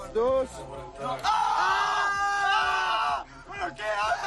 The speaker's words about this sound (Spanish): Y lo graban en vídeo para subirlo a las redes sociales. Graban a los chavales dando gritos al recibir el calambrazo.